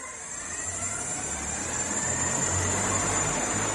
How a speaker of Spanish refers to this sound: Bueno, así es como suena el prototipo de SkyDrive, un coche volador japonés que, más que un coche, todo hay que decirlo, parece un helicóptero. Y de hecho, si lo escuchas, ¿verdad?, que este es el sonido, pues parece eso, más que nada.